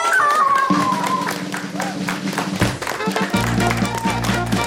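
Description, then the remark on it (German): A crowd on the show Rätselhaft applauds the arrival of Herr Müller, the show's referee, with dense, steady clapping that lasts the whole stretch, mixed with a loud musical jingle carrying low sustained tones that shift pitch partway through. “Einen großen Applaus für Herrn Müller!”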